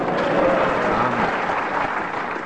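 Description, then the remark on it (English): An audience claps steadily, a dense wash of many hands at a fairly loud, even level that holds throughout and tapers slightly at the end. “We've got more applause, so it is.”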